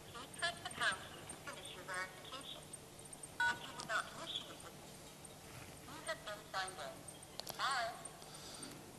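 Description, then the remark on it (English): Phone keypad tones sound as a PIN is entered on a phone during an Azure phone authentication call: a series of short, clipped beeps at an irregular pace, fairly quiet, with a muffled voice murmuring underneath. “So I just got a phone call from Azure who asked me to type in a sort of PIN.”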